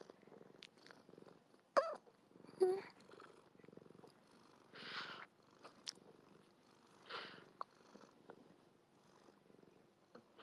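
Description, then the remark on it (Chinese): A pet cat named Guagua purrs softly and steadily, a low continuous rumble broken by a few brief clicks and rustles, with faint murmuring in the background. “呱呱是我的小猫。”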